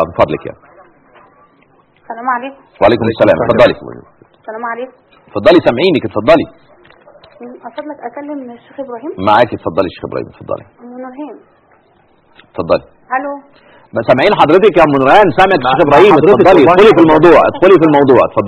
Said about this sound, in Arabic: اخفضي صوت التلفزيون من فضلك. يعني اخفضي صوت التلفزيون اسمعينا من التليفون يعني.